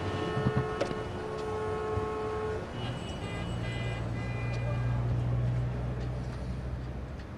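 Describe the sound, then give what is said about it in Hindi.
Car horns blare in steady, overlapping honks over a low rumble of congested traffic on a blocked road where the vehicles are not moving. One long blast sounds at the start, and further horn tones follow later. “अरे तुम हॉर्न क्यों बजा रहे हो? देख रहे हो ना रास्ता बंद है, आगे नहीं बढ़ रही है ना गाड़ियां, बस रास्ता रोके हुए।”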